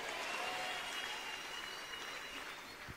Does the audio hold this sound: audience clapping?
yes